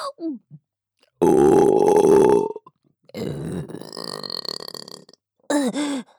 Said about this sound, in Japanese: ゲップ出ちゃいます。ご主人様に改造されたこの喉が感じて、ゲップをご主人様にも聞かせたくて、ゲップしちゃうたびに感じちゃいます。